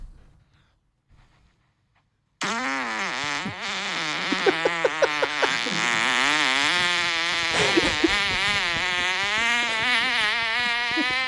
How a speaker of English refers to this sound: I think it was a good fucking 12 second fart.